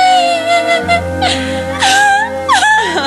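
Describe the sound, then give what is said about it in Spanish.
A voice imitates a sad girl crying, with continuous high whimpers that waver and slide up and down, breaking into short sobbing catches for about three seconds. “ella estaba triste, eso que llore. Estaba llorando Doloricienta en la habitación”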